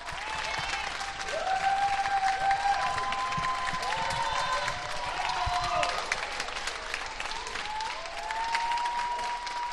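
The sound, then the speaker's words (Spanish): Sustained applause from many people clapping together for health workers at 8 pm, for the whole ten seconds, steady and fairly loud, with rising whistles and faint shouts cutting through now and then. “Nosotros también aplaudimos a nuestros héroes, así que todos los días a esta hora así.”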